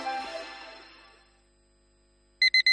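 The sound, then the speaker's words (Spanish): A fading chime dies away into near silence, then an electronic alarm clock starts ringing: three quick, loud, high-pitched beeps in a steady rhythm. “Pasarse al Seat León híbrido con Seat Flex es tan fácil como posponer la alarma.”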